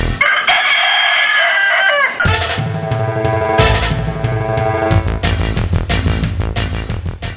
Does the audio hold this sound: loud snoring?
no